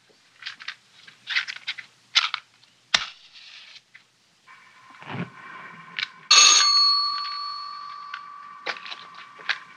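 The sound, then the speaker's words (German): A doorbell rings once, sharp and clear, with its bright tone lingering and fading over a few seconds, following scattered clattering and household bumps. “Sie setzt die Kartoffeln auf den Herd, es klingelt, sie wäscht sich die Hände, zieht die Kittelschürze aus, geht an die Tür, öffnet.”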